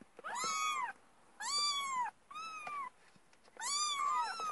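A cat meows four times in a row, loud, each call drawn out with a rising then falling tone and short pauses between them. No one speaks.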